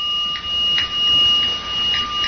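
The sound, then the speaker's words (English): A wooden instrument is played in a meditation 'roll down' marking one minute left of a sitting: a series of hollow, knocking strikes, each ringing briefly with a bright tone, in a steady, unhurried roll that stands alone with no talking. “So after our 5 minutes, I'll do a roll down. Roll down sounds like this.”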